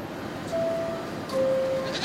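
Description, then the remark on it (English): A goat bleats twice in quick succession by closing subway doors, two fairly loud, steady cries over a constant rumbling background noise, with no one speaking. “Man, that goat will be pulverized by these powerful doors.”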